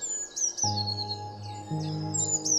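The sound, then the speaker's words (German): A small bird, a blue tit sitting in a tree, chirps and twitters in quick, high repeated calls, fairly clear, while a steady low musical drone hums underneath. “Mit einem Mal dringt dir das Zwitschern eines Vogels ins Ohr.”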